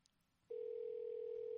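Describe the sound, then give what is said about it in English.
After a brief quiet moment, a telephone dial tone switches on as someone prepares to call a number: one steady, unbroken hum that stays loud until the end, with no voices. “So when we call this number, we're going to talk to a guy.”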